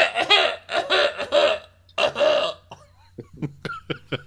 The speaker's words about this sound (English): And then as a result, I have a cough that shows up. Here it comes. See? It's like this. This is the cough.